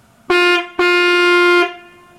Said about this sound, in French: Il faut savoir que les jeux d'anche sont généralement les jeux les plus puissants de l'orgue. C'est pour ça que là, je me permets de me tourner vers la nef.